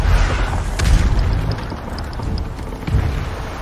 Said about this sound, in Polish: Strzały.